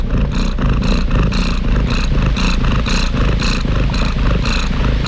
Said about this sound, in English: Listen to this cat. That sounds like Kate eating a bird.